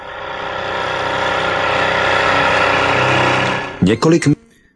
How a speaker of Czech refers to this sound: Takže nakonec teda motor jsme sehnali. Vypluli jsme a další zastávkou byla taková velká zvláštnost na dolním toku řeky Kobak.